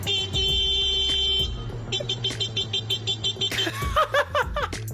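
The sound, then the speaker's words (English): A man's voice mimics a car horn, starting with a long honk and breaking into a quick run of short, rhythmic beeps, ending in a burst of higher, choppier vocal sounds. “The noise you're going to hear sounds like a man being interrupted by a car. He isn't being interrupted by the car.”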